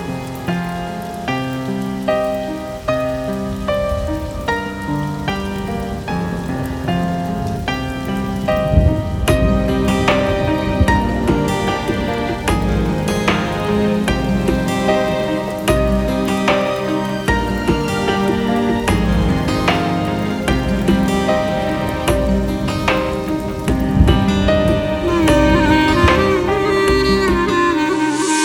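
Steady rain patters on a surface beneath a full musical backing of sustained tones and soft beats. The rainfall stays continuous and moderately loud throughout, with no voices.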